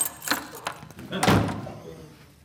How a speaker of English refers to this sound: And here are your keys.